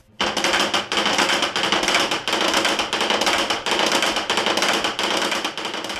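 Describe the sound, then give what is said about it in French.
A giant wooden clapper, the kakia, in the bell tower of Épauvillers on a windy day, used in place of church bells as a call to prayer, rattles loudly and continuously, a dense rapid clatter surging in regular waves about twice a second, starting abruptly and running the full six seconds, no voices. “Alors ça, c'est le kakia, ça remplace les cloches.”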